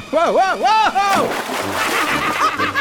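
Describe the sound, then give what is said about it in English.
A wavering, yelping cry gives way to a loud splash as a person tumbles overboard from a boat into water about three feet deep, followed by steady sloshing and churning for a couple of seconds. “Knucklehead overboard.”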